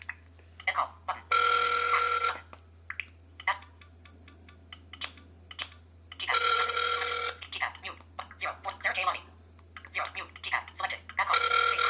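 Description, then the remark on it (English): A FaceTime call ringing tone repeats in bright electronic bursts roughly every five seconds, with rapid, choppy speech chattering between the rings over a steady low hum. “So it's ringing, but I can't.”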